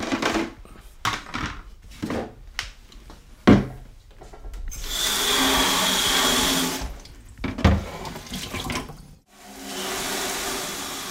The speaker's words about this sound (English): The Dermisteds have had their way with it for the past 3 days. I'm going to take it out and I'm going to put it in a bucket of water and see if there's any little critters living in it.